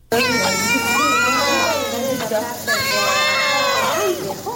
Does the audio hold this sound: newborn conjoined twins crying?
yes